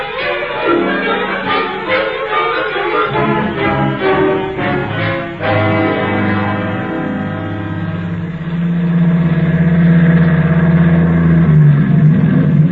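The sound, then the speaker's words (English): A truck engine drones steadily while driving to the cutoff at the new road, its low hum holding loud, then swelling and rising slightly in pitch near the end as it accelerates. No voices. “you take me now in your truck.”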